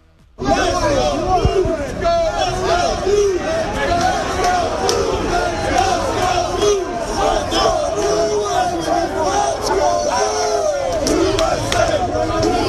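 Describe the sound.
A large, loud crowd of Blues and Bruins fans chants and shouts outdoors outside the TD Garden, chanting "let's go Blues" and "let's go Bruins", many voices overlapping in a continuous roar that kicks in abruptly after a brief moment of quiet.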